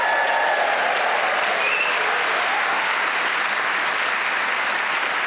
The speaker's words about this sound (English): Now time to introduce you to the four marvellous and extremely talented people playing Just a Minute this week. They are Paul Merton, Desiree Birch, Laura Smith and Julian Clary. Please whoop and cheer for all four.